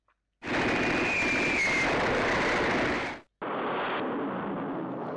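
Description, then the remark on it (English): A loud, rumbling roar of two bombs dropped by an American bomber exploding on two Japanese boats in a bay, with a faint falling whistle early on. The blast noise cuts off abruptly, then a second sustained explosion follows, with no voices. “Two bombs were released. There was a huge explosion as both ships were destroyed in full view of the brothers.”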